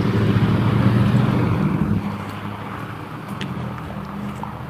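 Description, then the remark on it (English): Steady low rumble of passing road traffic, loud at first, then easing slightly into a continuous engine drone with faint wind noise; no voices. “I'm laughing at the traffic.”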